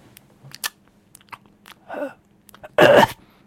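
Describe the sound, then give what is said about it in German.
A voice imitates ASMR-style mouth noises, simulating videos of women making soft breathy and smacking sounds into a high-definition microphone: scattered wet smacking clicks, then two breathy, whispery exhales, the last one louder and longer. No actual words are spoken. “so eine Liste an Videos von Frauen, die ganz, ganz nah an einem super High-Def-Mikrofon sitzen und die ganze Zeit so leichte Hauch- und Schmatzgeräusche machen.”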